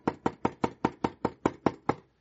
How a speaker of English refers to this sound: And one morning, at about, 1 o'clock in the morning or so, we hear it knocking on the door, similar to what you heard before.